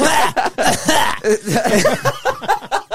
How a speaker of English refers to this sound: We're coughing into the mics on live radio here.